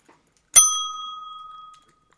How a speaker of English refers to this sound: Right then. The bell.